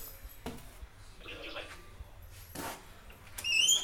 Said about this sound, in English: Alright, sorry about that, just want to close the door.